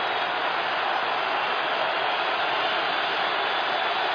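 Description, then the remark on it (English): A steady, dense roar of stadium crowd noise at an American football game, Ravens quarterback Joe Flacco's team facing second and 10 from the Lions' 13-yard line, holds at an even level for about four seconds, a continuous hiss-like wash with no distinct voices, cheers or pauses. “Crowd making noise.”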